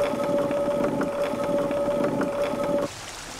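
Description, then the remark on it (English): Steady rushing water, falling about a metre, churns beneath a turning mill wheel that turns a 200-kilogram stone grinding grain into flour, with a low mechanical hum and faint rhythmic thumps, continuous before dropping to a softer hiss near the end. “I mean, that water is falling maybe a metre, going under a wheel.”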